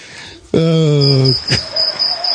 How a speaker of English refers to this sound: Oh, we're the crickets. Cue the crickets that we need at this point.